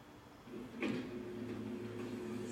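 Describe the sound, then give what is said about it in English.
A woman walks face first into a hardware store door that won't open for her: a single dull bump with a brief rattle, then a steady low hum continues in the background. No one speaks. “and the door won't open for her, so she walks face first into it.”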